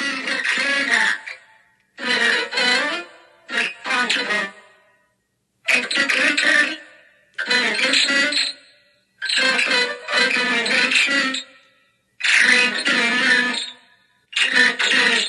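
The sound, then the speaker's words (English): A piano played to mimic human speech, producing eerie, distorted voice-like phrases in about eight loud bursts separated by short pauses, with buzzy, dense chords shaped like syllables. “It sounds like a creepy, distorted, like ghost voice, but it definitely sounds like a voice.”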